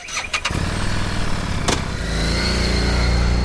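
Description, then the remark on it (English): A Harley-Davidson Street 750 motorcycle engine cranks with a few sharp clicks, then catches and settles into a steady, low exhaust rumble at idle, fairly loud, swelling slightly toward the end. No voices. “Now listen to the Street 750.”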